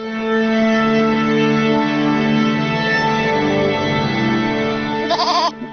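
A goat bleats in one long, wavering, nasal cry that holds steady for several seconds, loud, then breaks into a few short bursts at the end. No one speaks.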